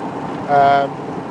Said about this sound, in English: I hope the weather's better for him than it is for me. It's steaming down with rain on the old motorway. Bit of it is okay. Not much traffic about.